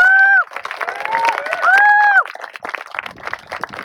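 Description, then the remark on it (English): An audience claps steadily for several seconds for Dave Pine, with cheering and a couple of loud, sustained whoops or whistles rising over the clapping before it thins out toward the end. “Give a round of applause for Dave Pine.”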